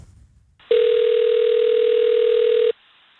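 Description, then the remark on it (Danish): A single steady telephone ringing tone from an outgoing call to a swimming hall in Greve, a loud, clear electronic beep lasting about two seconds, with quiet line noise before and after and no voices. “Spørgsmålet er, om det fungerer, og derfor vil vi ringe til Greve svømmehal.”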